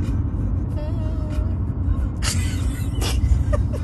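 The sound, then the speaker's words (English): Steady low rumble of a car cabin on the road, a constant droning hum with occasional brief bursts of hiss and clatter, continuous throughout and fairly loud. “In case you caught we were in the car.”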